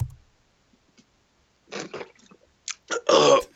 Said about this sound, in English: Yeah, you winked and then I laughed. And then it went down the wrong... My water went down the wrong pipe. Oh, this is unfortunate.